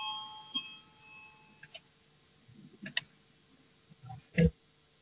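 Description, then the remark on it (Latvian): A parliamentary voting bell, rung to call a vote on the fourth proposal, sounds as a faint electronic tone through the first second and a half, followed by scattered clicks and taps and one sharper knock near the end, with no talking. “zvanu, balsosim par 4. zemkopības ministra Gerhardta priekšlikumu”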